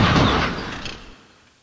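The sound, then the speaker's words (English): Thomas the engine, braking hard, crashes into a farmer's stalled lorry on the line: one loud, heavy smash with a splintering, rattling edge that rolls on and fades away over about a second and a half, with no voices. “But he couldn't stop and hit the lorry with a loud crash.”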